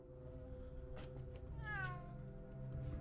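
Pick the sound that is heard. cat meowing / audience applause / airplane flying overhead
cat meowing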